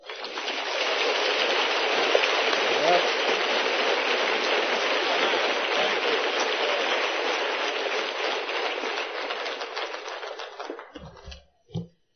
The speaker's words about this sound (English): Yeah, with all that applause, I can hardly wait to hear what I've got to say.